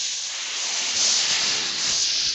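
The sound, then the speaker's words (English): A steady hiss like air or steam escaping from a leak, holding constant for a couple of seconds with a slight swell midway, and no voices. “My penis sounds like it's leaking when I come. Oh, I thought your penis sounds like it was frying bacon.”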